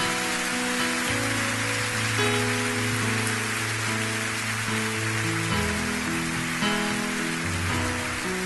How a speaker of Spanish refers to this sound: Si estás arriba, no importa, denles un aplauso a los que van a pasar.